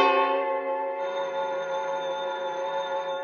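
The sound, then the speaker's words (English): A telephone bell rings loudly and steadily, a sustained metallic jangle that holds for a few seconds with no voices over it. “When I got the bell, I thought fast. If Miletus was out of town, everybody who knew his private number would know better than to ring it.”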